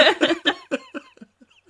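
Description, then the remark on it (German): A woman coughs in a quick fit of five or six harsh bursts that grow weaker and trail off into faint breaths, with no talking. “Ich rauche, sie hustet, das ist einfach eine Ergänzung.”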